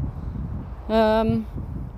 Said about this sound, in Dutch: Aan de wandel. Ik denk dat je de wind wel hoort. Het is zo winderig. De afgelopen periode al steeds. Ik kan het bijna niet voorkomen als ik buiten ben.